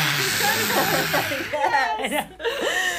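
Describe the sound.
Forceful, open-mouthed lion's breath exhales from a yoga breathing practice rush out as loud, breathy hisses, mixed with voices chuckling and laughing throughout.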